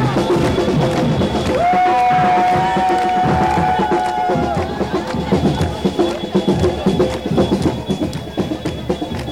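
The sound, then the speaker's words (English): A loud, boisterous crowd of protesters marching from Park Avenue at 16th Street, next to Union Square, toward the Garden fills the scene with overlapping shouts and chatter, and a sustained whistle-like tone rings out briefly over the din near the start. “Down at the beginning of Park Avenue, 16th Street, right next to Union Square, boisterous crowd saying they're marching to the garden.”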